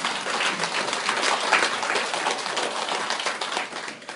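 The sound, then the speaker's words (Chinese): A crowd applauds steadily for about four seconds, many hands clapping in a dense, crackling wash at an even volume that thins slightly at the end. No voices are heard. “你鼓掌鼓掌，我就想混进来。”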